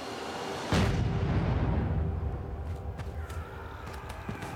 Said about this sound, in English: But as they return to their lines, someone in the parliamentary artillery gets itchy fingers and looses off a cannon.